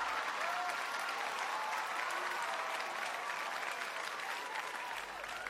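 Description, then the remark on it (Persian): Sustained applause from a group fills the whole stretch, a dense steady patter of many hands clapping at once, fairly loud, with no one talking over it, given in honor of people who donate belongings they no longer need. “یک چکچک و یک تشویق به افتخار ای بزرگ برن.”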